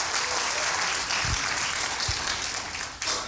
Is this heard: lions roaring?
no